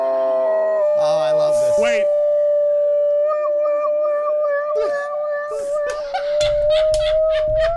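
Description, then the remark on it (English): A dog, a mutt that is mostly golden retriever, howls in one long, sustained, wavering tone. It is mimicking an ambulance siren it hears. There are scattered yips and rustling, and a brief spoken word partway through. “He's imitating an ambulance because he hears an ambulance.”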